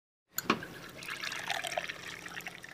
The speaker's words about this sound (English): That's what it sounds like to pour a pint of Colorado-brewed craft beer.